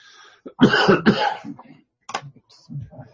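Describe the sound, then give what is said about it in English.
A man coughs twice in quick, harsh bursts, followed by a short throat-clearing rasp and a faint murmur of speech. “Yeah, a little bit of a cough, but.”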